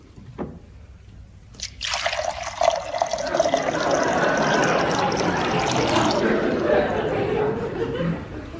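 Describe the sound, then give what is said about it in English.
A short tap, then whiskey is poured steadily into a glass as a drink for a guest in cold weather, a bright splashing stream lasting several seconds before tapering off. “I mean, something a little stronger in this cold weather. Whiskey, perhaps?”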